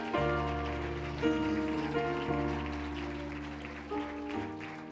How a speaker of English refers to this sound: Praise the Lord, everybody. Let's clap our hands to the Lord a little bit. What an awesome God.